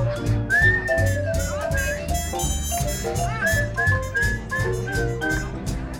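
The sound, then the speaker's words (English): Someone whistles a sliding, melodic tune in clear tones, carried over a steady backing of rhythmic low-pitched music and background voices. “I guess you can whistle, that's all right.”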